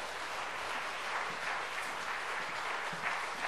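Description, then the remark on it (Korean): An audience at a church gathering applauds steadily to welcome a pastor coming out to speak, a dense wash of many hands clapping at a constant level for the whole few seconds, with no voices rising above it. “우리 나오실 때 큰 박수로 환영을 하도록 하겠습니다.”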